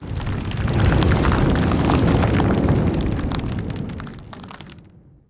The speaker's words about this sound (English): Again, there was the sound of thunder, and the floor opened.